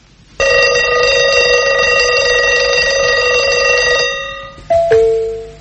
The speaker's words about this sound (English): If you don't want to wake up right away, it lets you sleep for a few more seconds. And here's another kind point. You can flip the alarm from loud to soft. Get a Big Ben by West Clocks.